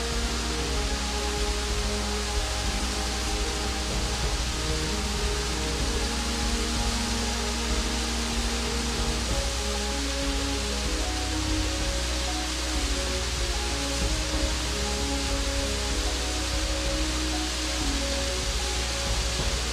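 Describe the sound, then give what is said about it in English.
Vide Creek water rushes steadily over a series of cascades and drops below the East Rim Drive, a dense, unbroken hiss with a low rumbling undertone, holding an even loudness throughout with no voices. “It continues over a variety of cascades and drops for another quarter of a mile”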